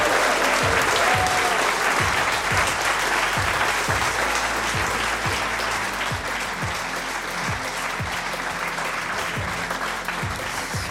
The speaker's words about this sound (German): Aber erstmal vielleicht nochmal ein bisschen Radau für alle Podcast-Hörerinnen und Hörer, die das hier erst in ein paar Wochen hören, dass wir die begrüßen, dass sie auch am Start sind. Also bitte nochmal Applaus.